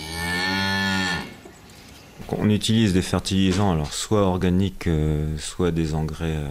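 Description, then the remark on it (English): A cow on a dairy farm of 100 cows near the coast in Brittany lets out one long, deep moo lasting about a second. After a short pause, someone starts talking steadily. “who has 100 cows on his farm near the coast.”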